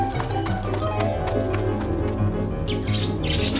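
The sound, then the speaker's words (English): Birds flap their wings in a rapid, fluttering flurry while bright chirps and tweets ring out, growing more prominent toward the end, all fairly loud over a steady low hum. “The birds dropped another dress and gold shoes on her.”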